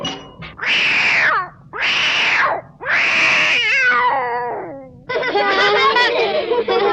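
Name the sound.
kitten meowing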